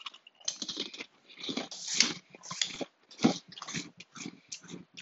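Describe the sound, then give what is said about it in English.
Wet, crunchy chewing of burnt Fritos very close to the microphone, with irregular bites and mouth clicks continuing steadily for several seconds, no talking. “sorry for chewing in my ear”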